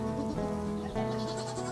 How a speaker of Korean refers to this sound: 하얀 염소 저기 많이 있어요.